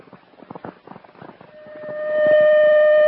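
Muffled voices give way to a citywide alarm siren, a steady piercing tone with strong overtones that swells louder and holds at full volume through the end.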